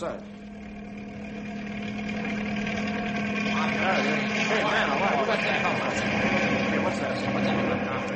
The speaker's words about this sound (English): Hey, there's a helicopter coming into the mesa.